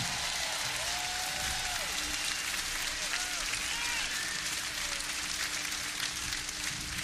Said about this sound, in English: Ladies and gentlemen, the Philadelphia Sound, the …. Give them all a big, big round of applause, y'all.